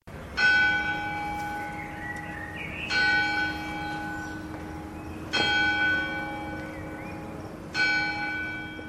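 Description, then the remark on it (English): A church bell tolls four times at a slow, steady pace, each loud strike ringing out with rich overtones and a long fading hum that carries into the next stroke. No voices. “Willie awoke the next morning to the sound of the church bell calling its flock.”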